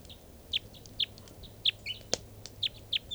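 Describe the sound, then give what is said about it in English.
Repeated high, sharp bird chirps at a steady pace, about two per second, with a brief louder click partway through over a faint low hum, from a bird perched on bird cages. No one speaks. “This is one of the birds.”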